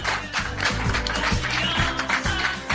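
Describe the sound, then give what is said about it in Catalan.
A packed live audience at a radio broadcast applauds steadily, real rather than canned applause, dense overlapping claps filling the whole stretch at an even level, with a low humming tone running underneath. “I no són de llauna, els aplaudiments. Aquest cop són de veritat, per una vegada a la ràdio.”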